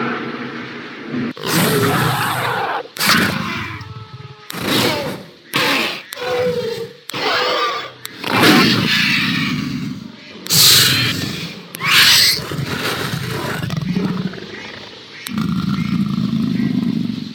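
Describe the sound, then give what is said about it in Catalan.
Loud calls of velociraptors approaching fast through the grass, a rapid run of harsh roars, screeches and snarling grunts in short overlapping bursts, with no talking, building and fading over about fifteen seconds. “No, no són gossos. Es diuen velociraptors i són molt ràpids.”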